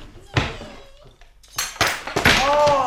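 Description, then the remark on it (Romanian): A lamp falls to the floor: one sharp knock, then a louder clattering crash whose bright, ringing metallic tones linger and fade. “A căzut lampa.”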